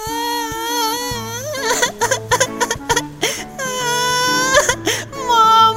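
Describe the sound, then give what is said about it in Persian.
A child wails and sobs loudly, calling for their mother, in long, wavering cries that break into choppy gasps, with steady musical tones playing underneath throughout. “با صدای بلند گریه کرد و مامان را صدا زد.”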